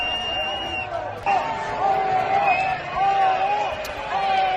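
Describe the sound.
A crowd in Madrid whistles and shouts in protest at Spanish minister Félix Bolaños, with sustained high-pitched whistles gliding over a dense, loud roar of voices that swells and continues throughout.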